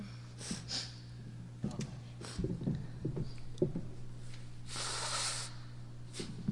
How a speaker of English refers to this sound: That gave me time to blow my nose.